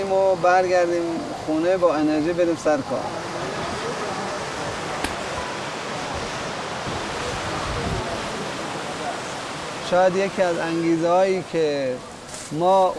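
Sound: waterfall rushing water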